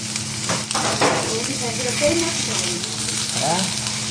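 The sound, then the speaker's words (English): Steady, dense sizzling of eel cooking in a restaurant kitchen near the Neversink River in Orange County, in the Catskills, fairly loud, with faint kitchen clatter and murmuring voices in the background. “Just steps from the Neversink River in Orange County, the sound and smell of sizzling eel fill a restaurant's kitchen.”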